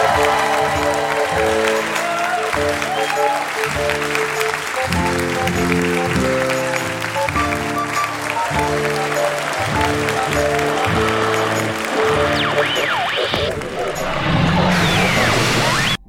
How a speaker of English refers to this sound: Was that What a Wonderful Performance applause, or This Ordeal Has Finally Ended applause? We'll never know.